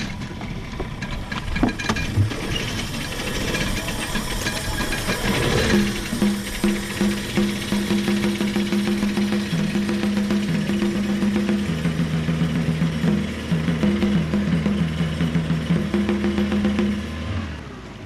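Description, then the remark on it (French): A small motor on a rowing boat on a lake catches after a few seconds of clatter, then settles into a steady, droning hum, its pitch wavering slightly as it chugs along. “Voilà, on démarre le moteur ? On peut démarrer.”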